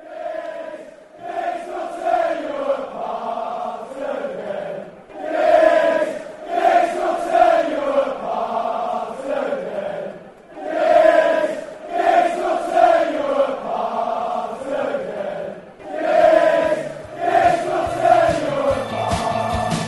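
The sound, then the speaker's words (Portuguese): A big crowd of United football supporters sings a chant in unison in tribute to their idol Ryan Giggs, loud and tuneful, repeating the same melodic phrase in steady waves with brief pauses between lines. “Essa é a homenagem que a torcida do United faz ao seu ídolo Ryan Giggs.”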